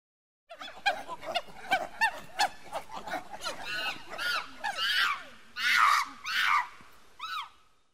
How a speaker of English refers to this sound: A monkey.